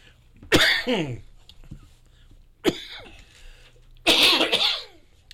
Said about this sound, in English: Okay, now you got your share of coughing on the air.